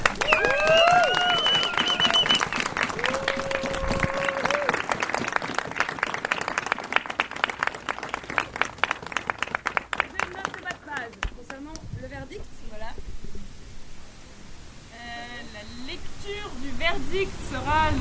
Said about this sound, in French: Je crois que ça mérite des applaudissements pour toute la dureté de la matinée.